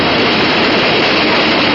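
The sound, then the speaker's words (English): A loud, steady rumbling roar fills the whole moment, like a heavy train thundering past a station platform, dense and continuous with no voices over it. “Slipped and fell as he grasped at her, fell under his feet, tripped him, sent him flying over her, over the edge, down onto the track, under that thundering train.”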